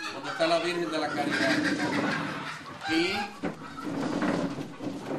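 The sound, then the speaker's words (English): Agitated chickens cluck and squawk steadily, interrupting a Mass held in a village place of worship, with a couple of sharper outbursts, while indistinct human voices murmur underneath. “In this congregation made up of mostly women and young girls, it's not unusual for Mass to be interrupted by angry chickens.”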